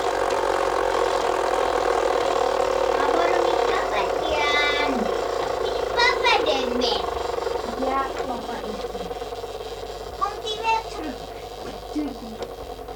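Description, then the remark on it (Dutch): A car engine idles with a steady, droning hum throughout as the car is about to be moved out of a parking space, while people talk over it. “Nou, dan gaan we zelf uit de parkeerplaats zetten die auto.”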